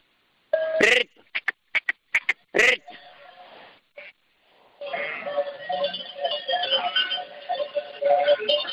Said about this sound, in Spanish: Son ovejas, ovejas. Todo oveja, son ovejas, ¿eh? Merina, oveja merina.